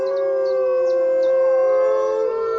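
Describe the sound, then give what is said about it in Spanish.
Several wolves give a defensive howl together, warning a rival pack to retreat: a sustained, overlapping chorus of long wavering tones, loud and continuous, with a few faint short yips breaking in near the start. No talking. “Este es un aullido de defensa.”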